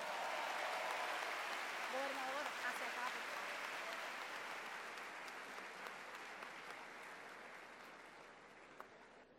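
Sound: audience applause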